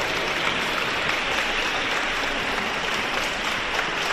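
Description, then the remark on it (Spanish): Steady applause from a crowd greeting Gisèle Pelicot on her arrival at a trial session in France, dense and continuous for several seconds at an even loudness, with no voices standing out above the clapping. “Con aplauso recibieron ayer a Gisèle Pelicot a su llegada a la sesión”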